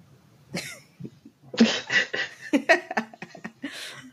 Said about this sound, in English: So, I just as a PS announcement, am sick. So if you see me coughing or dying up a lung, don't worry. It's just a cold.